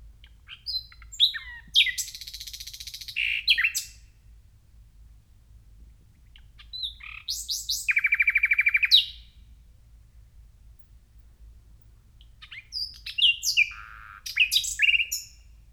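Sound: nightingale song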